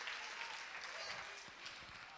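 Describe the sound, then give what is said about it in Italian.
Steady crowd applause, a dense wash of many hands clapping at moderate volume, with faint voices murmuring underneath. “Ora provate a fargli un applauso.”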